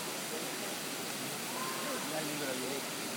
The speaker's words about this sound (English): You can also hear water pouring, which I think is a waterfall off to the left somewhere.